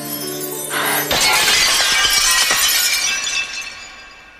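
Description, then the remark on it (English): Glass shatters loudly, a sharp crash followed by a spray of tinkling shards that scatter and fade over a few seconds. “Probably means that she can take no risks whatsoever in the world, because if she does bump into anything, she will break and she will become a terrifying tangle of flesh and glass.”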